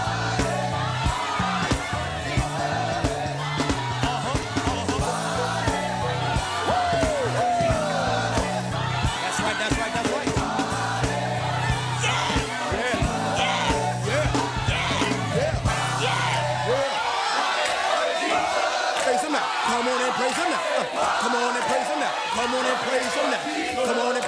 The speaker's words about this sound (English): Everybody, I feel a hand clap coming on. I said I feel a hand clap coming on. I feel a foot stomping coming on. Come on and stomp that foot in. Come on and clap that hand.